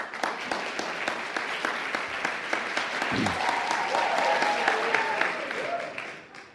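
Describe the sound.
An audience breaks into sustained applause, dense overlapping clapping that holds steady for several seconds before tapering off, with a few cheers and raised voices mixed in.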